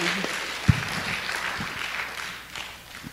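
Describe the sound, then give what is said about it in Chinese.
A church audience applauds to give thanks after a presentation, in a steady, dense wash of clapping that holds for about three seconds, with one sharper thump early on and no voices over it. “来，我们再给个掌声，来，感谢神。”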